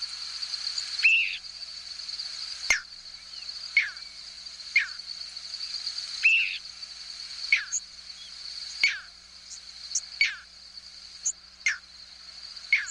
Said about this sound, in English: This clip is from a 6-hour recording of squeaks, whistles, and peeps from thousands of birds passing over a hayfield in central New York State. You'll hear a few crickets, too.